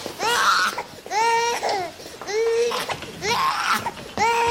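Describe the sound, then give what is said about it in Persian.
A baby cries in a string of about five loud, wavering wails, each lasting under a second with short gasping breaks between them, and no other voices are heard. “جانم گریه نکن مامان، گریه نکن.”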